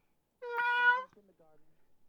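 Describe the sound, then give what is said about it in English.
A person imitates a cat with one drawn-out, tonal meow lasting about half a second, followed by quieter, trailing vocal murmurs. Fairly loud, with no other sounds around it. “I'm not going to be that eloquent in English, so I'll just meow, nuzzle, meow, meow, curl around you.”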